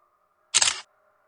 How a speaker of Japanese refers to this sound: 突然目の前でシャッター音がした。達也が携帯をシンジに向けて構えていた。